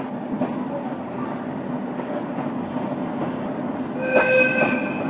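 A rack railway locomotive rolls downhill with a steady, grinding rumble, and a brief high-pitched wheel squeal rises near the end. No voices are heard.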